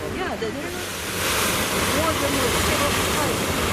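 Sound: ocean waves breaking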